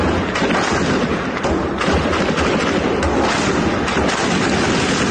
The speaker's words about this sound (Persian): روز گذشته در دیگر شهرهای کردنشین ایران هم مأموران دست به اسلحه بردند. در تصاویری که از بانه به دست ما رسیده، صدای گلوله قطع نمی‌شود.